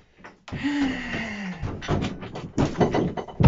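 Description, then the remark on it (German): A sudden thud as someone walks into a closed door, followed by a drawn-out low groan-like tone and a few more scattered bumps and rattles, fairly loud. “Zur Belohnung darfst du nachher meine Tür neu lackieren, weil du da vorgelaufen bist.”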